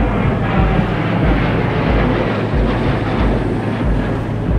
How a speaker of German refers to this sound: Ich sage, die Flugzeuge gehen mir auf den Senkel. Die sind so laut. Dann denkt man manchmal, die kommen dir auf den Kopf.